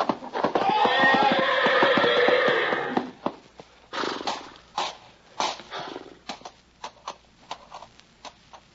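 A horse lets out a long, loud whinny with wavering harmonics for about three seconds, followed by a scatter of uneven hoof thumps and stamping, fading into irregular trampling as the horse tramples a man who backed into it.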